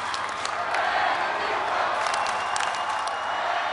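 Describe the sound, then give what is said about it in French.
A large crowd of young people waving white and yellow handkerchiefs cheers and shouts the name of Pope Benedict XVI as he passes in the popemobile, a steady, dense roar of many overlapping voices that stays loud and unbroken throughout, with brief higher whoops flaring above the din. “le pape s'est rendu sur la scène montée pour l'occasion en papa mobile, traversant une foule agitant avec force des mouchoirs blancs et jaunes aux couleurs du Saint-Siège et criant son nom.”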